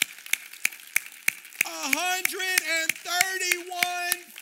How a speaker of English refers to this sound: Do you know, in just, this is only in the last 4 years, you have given out 131,553 meals. Come on, yeah, that's worth clapping for.